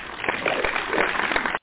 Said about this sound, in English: They get a golf clap.